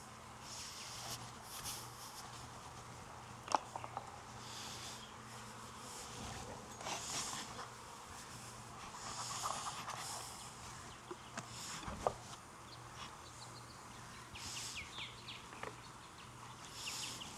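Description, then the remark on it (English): A steady insect buzz fills the air as honeybees fly around an open hive during a beekeeper's inspection, with individual bees droning past and occasional clicks and taps of handling; no one speaks. “She gonna buzz me? She might.”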